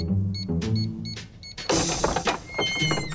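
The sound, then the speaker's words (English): A secret dog door is pushed through: a brief mechanical whirring gives way to a loud clattering flap and scuffling rustles, busy, with no talking. “That's it, everyone. Through the secret dog door.”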